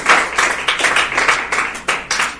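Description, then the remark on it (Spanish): A crowd claps loudly and steadily as an offering of applause to the Lord, a dense rush of overlapping hand claps with rhythmic surges roughly every third of a second, bright and sustained throughout. “Dale ofrenda de palmas al Señor, pues, por favor, pero fuerte, fuerte, fuerte.”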